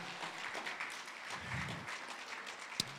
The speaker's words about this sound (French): Et vous pouvez applaudir. Je pense qu'ils en ont besoin.